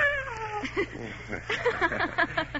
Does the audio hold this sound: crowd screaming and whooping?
no